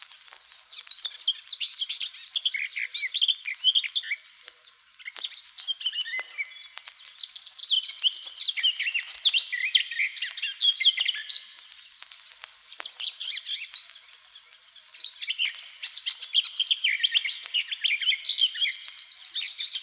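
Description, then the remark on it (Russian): A garden warbler sings a long, rich, continuous warbling song of rapid varied phrases, clear, with brief pauses between bursts and no voices. “Это поет садовая Славка.”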